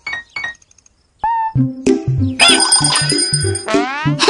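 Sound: small hand bell ringing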